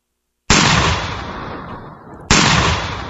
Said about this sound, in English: You know, in the beginning of that opening, I like to do the gunshot thing, and it's kind of fun for me because I get to go, and it's fun.